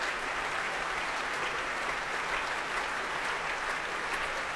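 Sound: concert hall audience applause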